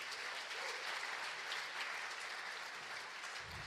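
A short burst of applause welcoming a speaker to the stage, many hands clapping in a dense, steady patter at even loudness for a few seconds, with no voices over it.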